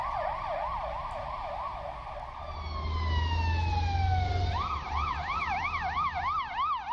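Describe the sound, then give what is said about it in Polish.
An ambulance siren wails in a fast, steady warble, briefly dropping into a long falling tone before the warble resumes, loud over a low engine rumble, as the ambulance takes a woman to hospital. “Ona zostaje wieziona karetką do szpitala, a on wrzeszczy, że nie chciał.”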